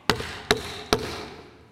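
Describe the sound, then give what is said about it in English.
Three firm knocks on a wooden door, evenly spaced in a steady rhythm, each a sharp thud with a brief ring-out, and nothing else heard. “I stand at the door and knock." How does he knock?”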